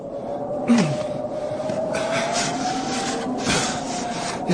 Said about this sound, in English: Well, just take me a minute to shovel your door free.